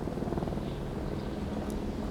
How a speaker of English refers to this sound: But finally, sometime that afternoon, a distinctive sound filters through the haze, bringing him back to reality. A chopper is cruising towards them.